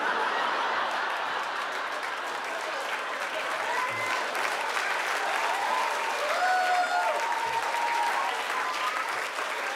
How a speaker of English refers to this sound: Now, some of you are clapping like, oh, yeah, that's all right. But some of you are clapping like, oh, like I'm a Special Olympic or something.